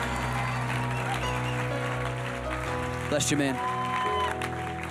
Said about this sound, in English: Come on, give God a big hand clap.